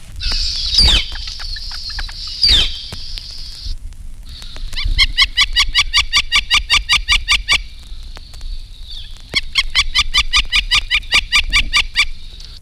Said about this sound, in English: Most of the woodpeckers have characteristic calls. Here is the strong cleup of the flicker, followed by his if, which is similar to certain calls of other woodpeckers.